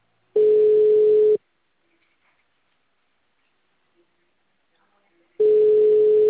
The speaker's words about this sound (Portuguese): Gente, tem um celular tocando, é meu? Vê se é um dos outros celulares que tá aí, ó.